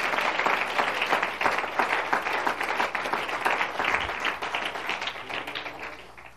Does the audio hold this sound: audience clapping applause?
yes